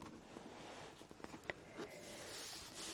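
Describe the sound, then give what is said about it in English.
Soft scratchy strokes of coloured pens moving across paper as someone colours in a drawing of flowers and leaves, with a few light taps and clicks, quiet, no voices. “So let's make it come to life with the pens.”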